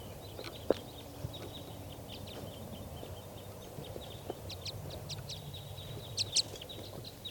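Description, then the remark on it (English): Many short chirps and calls from a flock of wild birds in trees, very near, just after the flock took off; the flock has two pairs, with bright red males and two females. The chirps are high-pitched and fairly faint, with a couple of louder sharp notes near the end over a low background rumble. No one speaks. “So recording, the flock just took off. And they're still here in the trees.”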